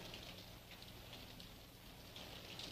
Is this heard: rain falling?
yes